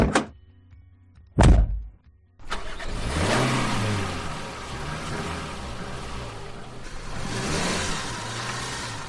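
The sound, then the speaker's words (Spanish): Two sharp thuds like doors shutting, then a van's engine starts up and accelerates, its loud roar climbing in pitch in repeated surges as it drives off toward the ACOGEM immigrant aid association in the Arganzuela district, about 25 kilometres away. “La furgoneta está lista para nuestro próximo destino.”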